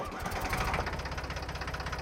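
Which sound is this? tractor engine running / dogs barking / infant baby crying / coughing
tractor engine running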